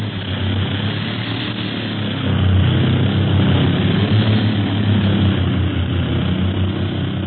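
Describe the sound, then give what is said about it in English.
A propeller airplane engine drones steadily in flight in windy conditions, a loud, continuous roar with a deep throbbing hum that swells slightly partway through and holds without a break. “Hey, it's getting windy around here. Plane's bucket.”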